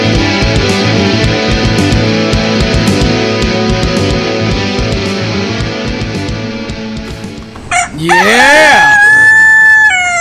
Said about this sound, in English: I didn't miss it. Yeah, you didn't. You woke up just in time. Did not miss the rooster. Wouldn't it suck if we actually had to wake up just like that, like back in the day?